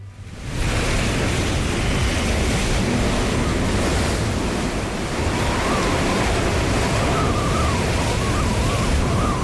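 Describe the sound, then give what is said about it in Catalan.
Rough sea surf crashes continuously on the shore at Sitges, a dense roar of breaking waves on a choppy sea, with gusty wind buffeting the microphone throughout and no voices. “Jo tinc un tiet que era pescador, aficionat de jove, i sempre em deia, quan el mar està picat, el llobarro va boig. Això és cert? Completament i totalment cert. Avui és un dia d'aquests.”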